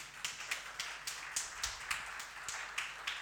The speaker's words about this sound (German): Ich möchte euch bitten als zweite Garnitur des Lobpreisteams, übrigens gebt denen mal, das war ja so gigantisch vor, da gebt denen mal echt einen riesen Applaus.